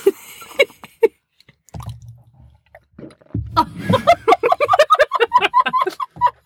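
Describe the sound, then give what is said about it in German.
Wet mouth sounds of someone swallowing with the mouth open: scattered clicks, a low gulping rumble, then a rapid run of moist smacks and squelches, moderately loud with no talking. “Schluckgeräusch. Nee, ich kann auch mit offenem Mund schlucken.”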